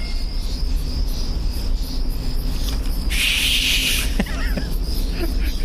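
In a movie scene, the character Caleb, with his fingers in his mouth, attempts a finger whistle in the woods to call Thomasin. The result is a single breathy, airy rush of air without a clear tone, lasting about a second over steady outdoor background hiss and faint insect-like chirps.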